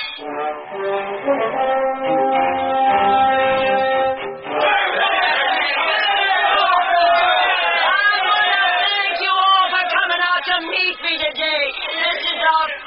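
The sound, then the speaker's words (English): A steady, horn-like blast sounds for a few seconds as a train comes into a station in Denver, then a large crowd at the station erupts into loud, continuous cheering and shouting that stays strong to the end. “We're coming into the station now. Would you look at that crowd?”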